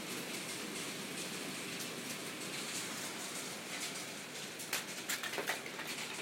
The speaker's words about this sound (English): It is hail.